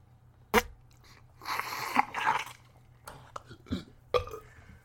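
A drawn-out, gurgling burp rumbles for over a second, framed by a few sharp clicks and short bursts before and after, all over a low steady hum.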